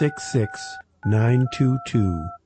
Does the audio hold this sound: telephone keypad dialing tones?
yes